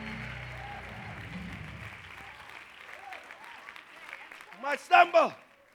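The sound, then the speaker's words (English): A church audience claps hands during a sermon in a dense, sustained burst of applause, with scattered voices and a few loud shouts rising above the clapping near the end. “I need at least 100 of you. Clap your hands right now.”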